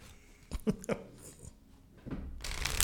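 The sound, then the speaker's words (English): Tarot cards being shuffled: a few soft papery slaps, then a brief pause before a rushing riffle builds and grows louder toward the end. No one speaks. “The cards are shuffled.”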